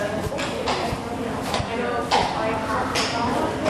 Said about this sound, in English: And you can hear from the sound of that horse's clip-clop that it's walking very slowly. Very slowly, a little bit dragging its feet. So the horse is just being led in. It's a little bit reluctant to go.